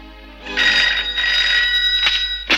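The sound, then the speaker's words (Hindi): A telephone rings with a bright, trilling electronic tone in two sustained bursts, fairly loud, followed by a couple of short clicks or handling knocks near the end. “hello sir, अच्छा हुआ आपका फोन आ गया,”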